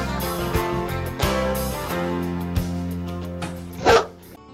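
A dog gives a single loud, close bark near the end, over a steady backdrop of sustained musical tones punctuated by a few soft knocks.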